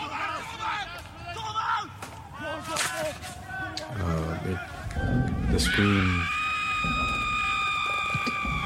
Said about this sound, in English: The scream.